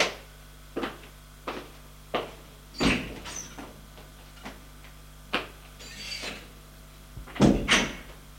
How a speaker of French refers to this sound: Il sort de la chambre. Va frapper aux autres portes.